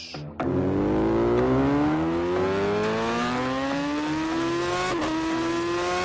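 A Yamaha motorcycle engine revs up loudly, its pitch climbing steadily for several seconds with a brief shift near the end, no voices over it.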